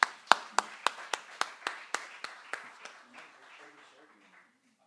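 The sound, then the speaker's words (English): An audience applauds a guest speaker: a steady run of about a dozen sharp, evenly spaced handclaps that gradually soften and trail off into quiet, with no one talking. “So without me speaking any longer than necessary, can we give Adam a round of applause?”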